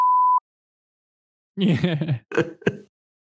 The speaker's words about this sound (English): Can we just put that chapter behind us entirely? I'll have Kyle put in a beep. Whenever we say it, it's just. We just say dim.